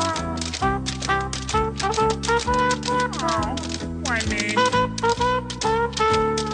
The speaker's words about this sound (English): Honey, those sheep are tap dancing.